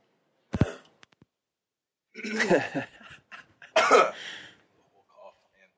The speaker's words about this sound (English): I have to clear my throat right now. Yeah. I'm muting myself to do it.